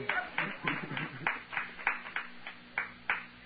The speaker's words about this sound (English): I got to get a certain amount of applause before I'll ever quit. Y'all ain't got me started yet.